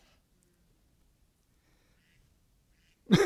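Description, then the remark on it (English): Long silence, then a single short, loud duck quack bursts in right at the very end, clipped off abruptly as it sounds. “The rapture's coming in a duck.”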